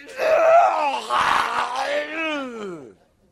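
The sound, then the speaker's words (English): A voice imitates the guttural sound made at cats in the backyard: one loud, strained vocal groan of about three seconds that wavers, then slides down in pitch and fades out, with no other sounds. “She makes this guttural sound that is just an incredible sound.”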